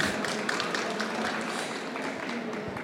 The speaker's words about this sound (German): Da gibt es auch Applaus.